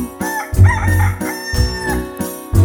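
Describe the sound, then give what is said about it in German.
Rooster-like crowing of a rooster hopping on the dung heap in a chicken yard rings out in bright, wavering calls over a musical backing with a pulsing, booming bass, loud, repeating in short bursts. “Der Hahn läuft im Hühnerhof hin und her und wünscht sich, dass er da der Größte wär und springt auf dem Mist und kräht Kockelidu, die Dudeli, Dudeli, Dudeli, Du.”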